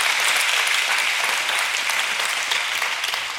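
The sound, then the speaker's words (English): A large crowd at a worship service claps and applauds steadily, a dense, sustained wash of many hands that stays loud throughout and eases off slightly at the very end. “Well, y'all clap for that.”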